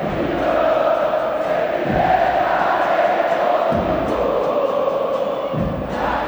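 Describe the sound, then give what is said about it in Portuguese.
A large stadium crowd of football fans chants in unison after Juninho scores a goal, a loud, continuous roar with rhythmic phrases that dip and restart every couple of seconds, echoing broadly across the stands. “Olha a torcida aí, ó.”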